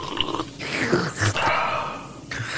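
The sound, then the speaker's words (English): Someone slurps tea from a cup about half full, lips on the rim: a long, airy, hissing suck lasting a couple of seconds, with brief breaks and wet gurgles, moderately loud with no talking. “I reckon the cup of tea is only half full, but his lips are on the rim and he's just gone, just sucked it up the side. That's the sound that's made.”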